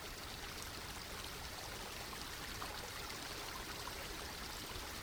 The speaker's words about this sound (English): Allow the moving water to dissolve and carry away your fears. Let the water carry away your judgments, your pain, your grief, your doubt, your worry, and your anger.